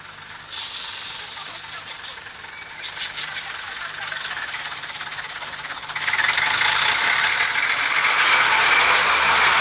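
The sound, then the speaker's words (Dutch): The engine of the 8:00 bus rumbles steadily, growing louder as the bus approaches and then settling into a loud, continuous idle with a rough, knocking texture. “Daar komt de bus van 8:00.”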